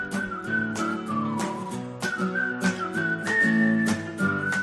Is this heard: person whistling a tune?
yes